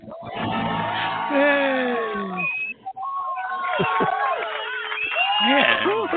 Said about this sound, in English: Bus pulls up, door open. Doors open, people jump out, they start screaming, clapping, and all that. They have their wine in their hand, they're ready for the show.